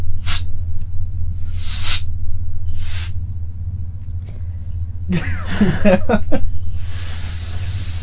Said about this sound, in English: She's trying to clean your electronics. She's trying to use a can of air to blow her nose.